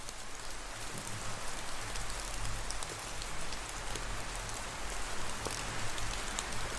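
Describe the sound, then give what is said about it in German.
Soft, steady patter of raindrops dripping from leaves, a gentle hiss broken by scattered light taps at an uneven rhythm, with a faint low hum underneath and no voices. “Dann wirst du nur noch wenige Tropfen sanft von den Blättern fallen hören.”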